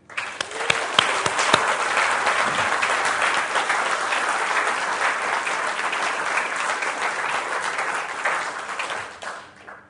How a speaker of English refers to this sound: God has done amazing. Let's just give him a clap.